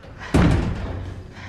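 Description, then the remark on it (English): A locked door at a reserve power plant is opened by its handle from the inside after its window glass is smashed: a single heavy thud, its reverberant rumble lingering and fading over the next second against a low background hum. “He smashes the glass from the window and opens the door handle from the inside.”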